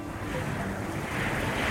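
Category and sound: nature, wind blowing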